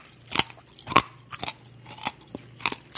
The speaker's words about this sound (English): And I guess I'll chew this peppermint up first. Hold on.